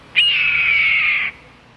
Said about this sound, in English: Perhaps a bit of freeway birdwatching may ease the frustration of slow traffic, so watch for this bulky football of a hawk. Once redtails find a successful hunting area, they return often.